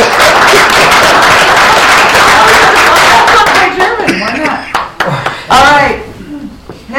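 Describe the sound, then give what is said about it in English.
An audience breaks into loud, dense applause to thank an honoree who is not present, a steady wash of many hands clapping for several seconds before it thins out and a voice starts talking over the last scattered claps. “A little applause for Kenny, please.”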